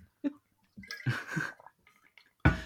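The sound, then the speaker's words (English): Someone sputters and chokes on a sip of drink, with several wet, gurgling bursts and coughs, ending in one loud, sharp splutter. “That was a bad time to take a sip of something.”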